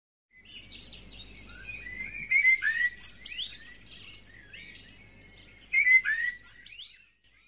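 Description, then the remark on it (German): Birds sing in spring sunshine in a lively, continuous stream of high chirps and warbles, swelling into two louder bursts of song, with a faint low rumble underneath and no voices. “Die Vögel singen.”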